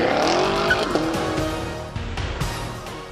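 A car engine roars and climbs in pitch as it accelerates, with screeching tire squeal over it. The sound is loud and continuous for about three seconds, then eases slightly, with no talking.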